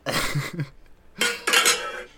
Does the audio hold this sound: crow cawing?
no